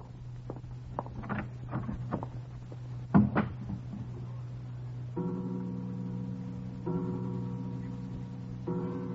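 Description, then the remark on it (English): An unlatched door creaks and clatters open as someone walks in, with a few knocks and a sharp thud, then a steady, droning hum sets in and continues in broad pulses. “Forgive me for just walking in, Herr Leutnant. Good evening, Herr Commandant. The door was unlatched.”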